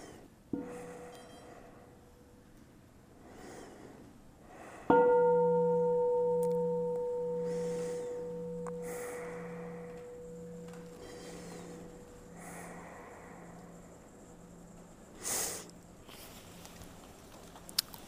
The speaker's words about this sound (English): Another bell.